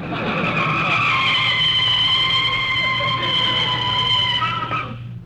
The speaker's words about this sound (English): We're only a block from home now, Rochester. You can start putting on the brakes.